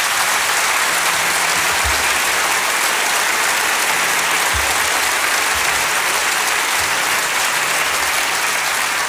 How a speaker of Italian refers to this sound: Mandiamo a tutti un grande applauso.